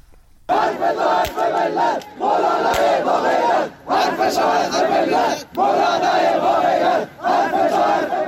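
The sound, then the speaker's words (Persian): About 100 supporters of the Sunni cleric Molavi Mohammad Hossein Gorgij chant slogans in unison at a Sunday rally in Galikesh, in support of the town's Friday prayer leader, voices rising in loud rhythmic bursts of a couple of seconds each, separated by brief pauses, with a steady cadence. “به گزارش کمپین فعالین بلوچ، حامیان محمد حسین گرگیج، مشهور به مولوی گرگیج که شمار آنها به 100 نفر می رسید، در تجمع روز یک شنبه شعارهایی در حمایت از امام جمعه گالیکش سر دادند.”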